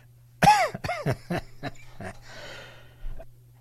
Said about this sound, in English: Here I am talking about how strong my immune system is, and I'm coughing my way into the commercial.